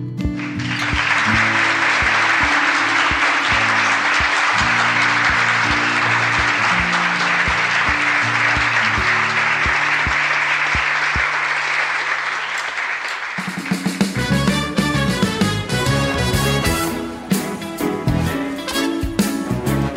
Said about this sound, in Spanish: Hoy este aplauso es para ustedes.